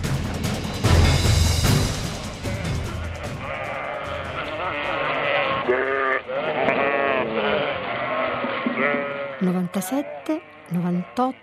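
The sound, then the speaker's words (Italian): A flock of sheep bleats nearly nonstop, many wavering calls overlapping, with a few separate, clearer bleats standing out toward the end, as the sheep are counted and called to line up one by one after a day at pasture, in cold weather. “Su, venite qui in fila, una per una. Lo so che siete stanche anche voi.”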